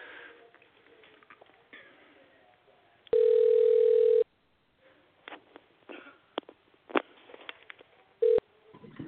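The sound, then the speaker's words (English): A phone call being placed to UFC veteran Zach Cummings: soft clicks and rustling, then a loud, steady mid-pitched ringing tone holds for about a second, followed by more scattered clicks and a brief second burst of the tone. “We're gonna go ahead and give my brother Zach Cummings a call, a tremendous UFC veteran.”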